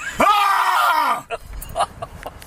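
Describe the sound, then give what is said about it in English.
A man lets out a single loud, sustained primal scream with a rising onset and a strained, rasping tone, lasting about a second, then cuts off, leaving faint scattered sounds and quiet murmuring. “Primal screams.”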